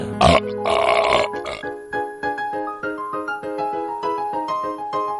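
A loud, drawn-out burp, starting with a few rough, raspy bursts and then stretching into a long, pulsing, throaty drone that lasts several seconds, close and unaccompanied by talk.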